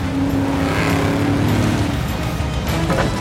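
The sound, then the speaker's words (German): A jeep engine roars at speed during a chase, heading one floor down, loud, holding a steady low drone with slight shifts in pitch as it races along, with no voices. “Ein Stockwerk nach unten, die Calvarias in Donnys Jeep hinterher.”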